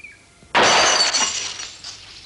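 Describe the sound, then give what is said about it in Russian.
A sudden Walther pistol shot shatters glass, bursting into a bright, crashing spray of breaking glass that tinkles and rattles as it fades over about two seconds, with no voices. “Снайперский выстрел.”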